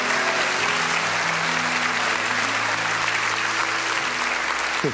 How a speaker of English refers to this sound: Just come on, clap your hands, all ye people. Shout out to God with a voice of triumph. Come on, he set us free.